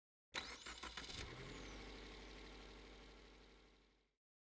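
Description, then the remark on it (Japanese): A car engine is started after the seatbelt is fastened, ahead of driving practice; it cranks with a quick burst of churning turns, then catches and settles into a steady idle rumble that runs for a few seconds before cutting off. “そうね、シートベルトして、エンジンかけて。”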